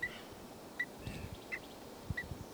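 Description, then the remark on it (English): A bird, numbered 384, gives four short, sharp alarm calls, evenly spaced about a second apart and moderately loud, over faint low thumps and background rustle. “And that was 384 giving an alarm.”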